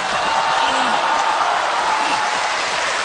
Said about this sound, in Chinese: 要鼓掌都鼓掌啊，别三两个的。